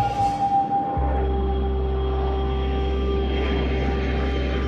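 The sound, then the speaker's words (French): The engine of a white and blue airplane drones steadily. A deep, loud rumbling hum kicks in after about a second, carrying a thin whining tone above it, continuous and unbroken, with no voices. “En tout cas, et dans le réel, ces hommes, femmes et enfants qui n'avaient jamais vu un avion de leur vie hallucinent.”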